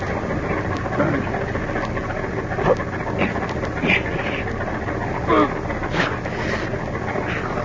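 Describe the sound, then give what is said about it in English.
A truck engine idles steadily in a closed garage, filling it with carbon monoxide gas. A constant low rumble with a broad hiss over it, and a few faint, muffled vocal sounds rising briefly above the drone. “Start the motor.”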